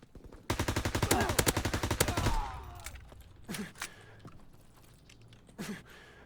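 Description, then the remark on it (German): Rapid automatic gunfire from a video game rattles in a dense burst for about two seconds, followed by a few scattered louder shots and short breathy sounds. “In dem Game geht es mir total oft so, dass ich quasi schon Schüsse ins Gesicht kriege, bevor ich überhaupt eine Chance habe zu Orten, wo Gegner sind.”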